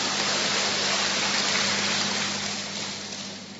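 A crowd claps in a dense, steady round of applause that holds strong for a few seconds and then begins to taper off. No one speaks over it.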